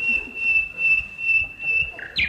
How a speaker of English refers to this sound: Listen. An English bird in full-throated cry. Oh, a part of England's treasured heritage. Where is the dear bird? Ah, I see him.